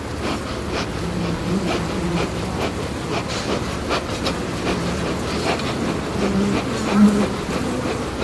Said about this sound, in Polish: Dzisiaj ten dźwięk pszczół wskazuje na nastrój roboczy. Jest jakiś umiarkowany pożytek.